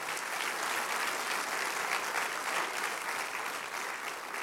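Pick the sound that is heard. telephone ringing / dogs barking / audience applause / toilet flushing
audience applause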